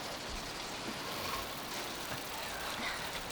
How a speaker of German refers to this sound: Auf halbem Weg, die Küstenstraße hoch, hörten sie das vertraute Tuckern eines Traktors, der ihnen entgegenkam.